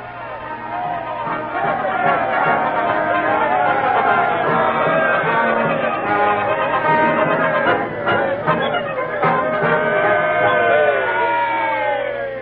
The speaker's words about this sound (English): Standing up in front of the new building with the crowd cheering and the band playing.